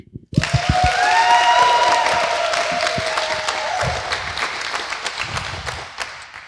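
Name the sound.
loud round of applause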